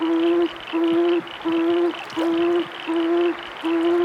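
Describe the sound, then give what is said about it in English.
A tawny frogmouth calls at night in a steady, repeated series of low, soft hoots, about six evenly spaced notes with short gaps, each a droning 'oom' with faint harmonics, and no voices present. “I love the sound of a tawny frog mouth calling out in the night.”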